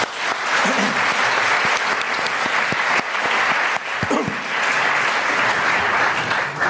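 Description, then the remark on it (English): An audience applauds steadily, dense clapping sustained at an even level for several seconds without pause, with no one speaking over it. “Now, without any further ado, please join me in a warm round of applause as I pass on the mic to Professor Monastiriotis to set the stage for the discussion.”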